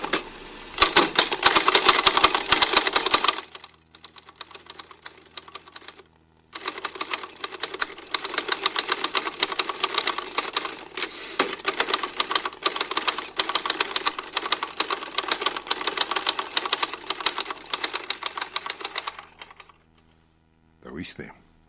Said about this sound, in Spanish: Una máquina de escribir Remington del año 1935, donde yo aprendí también a escribir abuela dedos, y que es el resultado sorprendente de una ingeniosa mentalidad que inventó algo que nadie creía que fuera a funcionar.